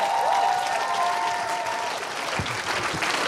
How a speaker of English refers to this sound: Come on, give them a good hand.